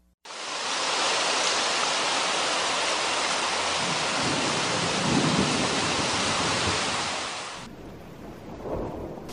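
Heavy rain pours down in a dense, steady roar, with a low rumble of thunder swelling midway. The downpour cuts off abruptly near the end, leaving quieter rain sounds.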